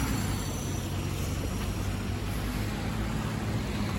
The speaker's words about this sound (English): Oh, my God. Ooh, I almost got ran over by a bus.